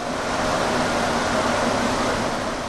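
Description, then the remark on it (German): A steady, loud rumble and hiss of a rubber-tyred metro train with sky-blue cars with a white stripe running, heard from inside the car, with a faint droning hum and no voices over the whole stretch. “aber trotzdem ist es ziemlich laut und fast immer ist da eine Art vibrierendes Wackeln”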